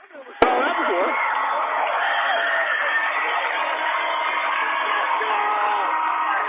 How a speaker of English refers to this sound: Welcome you back to a very noisy Bob Devaney Center here in Lincoln. The crowd is into this thing.